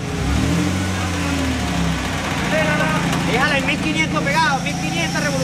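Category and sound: vehicle, truck engine revving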